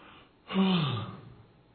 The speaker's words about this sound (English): I yawned.